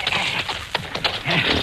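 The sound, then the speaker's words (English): A horse, with a few sharp hoof knocks and restless movement over a steady outdoor hiss, no voices. “Steady, horse.”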